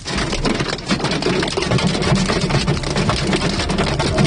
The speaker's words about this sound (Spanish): Es de lo que todo el mundo habla en el día de hoy, bueno, y también durante la jornada de ayer, ese granizo intenso que cayó durante la tarde en toda la ciudad y la provincia de Valencia.